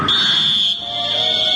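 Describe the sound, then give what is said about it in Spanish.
A referee's whistle at a football match gives one long, shrill, steady blast lasting about a second and a half. It stays loud throughout, and a lower tone joins it partway through. “El pitazo del referí.”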